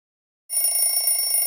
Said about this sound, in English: Turn off the alarm clock.